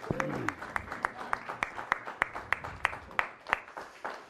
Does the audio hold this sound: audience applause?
yes